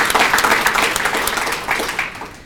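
An audience applauds with dense, steady clapping that holds at an even, fairly loud level before easing off toward the end; no one speaks over it.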